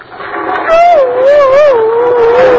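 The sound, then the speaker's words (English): A man's voice makes a high, wavering squeak that slides up and down for about two seconds, imitating a bat, over a hissy background. “Bats don't growl, they squeak.”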